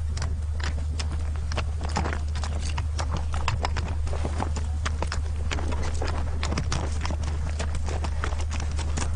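horse hooves clip-clopping

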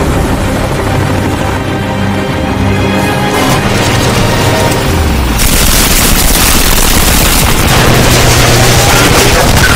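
semi-automatic gunfire

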